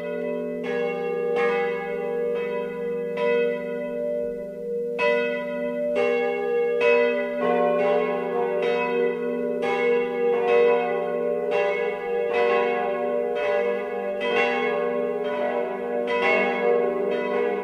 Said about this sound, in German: Es ist 12 Uhr. Das Mittagsläuten kommt heute aus der Pfarrkirche Mariä Himmelfahrt in Ranoldsberg in Oberbayern.